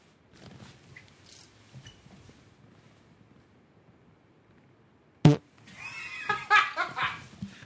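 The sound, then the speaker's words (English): After faint background murmuring, a sharp pop gives way to a loud, drawn-out fart with a squeaky, wavering, almost whinnying tone lasting about two seconds. “That was not a voicemail. Sorry, that was a straight Mexico fart.”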